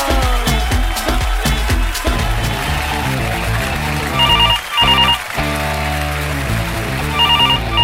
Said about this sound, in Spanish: ¡Tanán, llamando por teléfono!